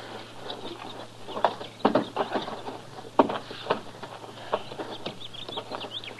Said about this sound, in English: Get off that horse, fella. Go on. That's better.